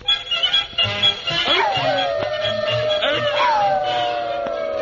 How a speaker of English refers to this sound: Well, look at those four watchdogs over there. Wonder what they're howling about.